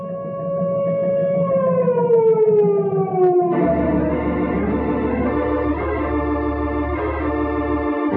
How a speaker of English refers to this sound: sound the disaster alarm.